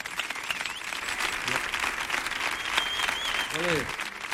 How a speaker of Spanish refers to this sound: os voy a pedir, por favor, un estruendoso y cariñoso aplauso